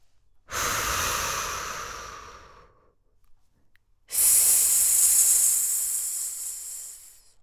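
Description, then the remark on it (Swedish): Two long, breathy airflow sounds, fairly loud, from a person doing a breathing exercise: a steady breath lasting a couple of seconds, a brief pause, then a longer, hissier, slow deep exhale that slowly fades out. “Så andas vi ut.”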